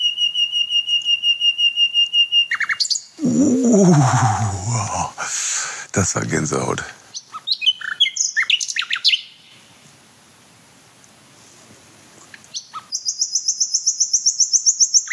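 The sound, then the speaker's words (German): A nightingale sings in loud bursts of rapid, repeated high notes, opening and closing the moment, with people briefly talking in between. “Ja, wir werden auf jeden Fall in diesem Jahr dann noch irgendwann eine kleine kurze Aufnahme machen, wenn auch die jungen Männchen still geworden sind und Nachtigall noch erstaunlich lange bei uns so abhängt.”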